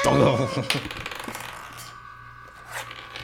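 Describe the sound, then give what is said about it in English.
Dice clatter and tumble across a hard tabletop in a quick burst of rattling clicks that settle within a couple of seconds, with a brief voice murmuring at the start. “All right, I rolled the wrong dice.”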